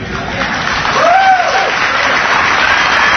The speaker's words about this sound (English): Don't applaud. I know what you're applauding for